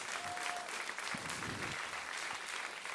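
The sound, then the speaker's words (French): An audience in a church at l'Épi applauds steadily to affirm their baptism commitment, a dense wash of many hands clapping at an even level for the whole stretch, with a brief faint voice or two underneath. “Est-ce que vous pouvez juste applaudir ou lever la main?”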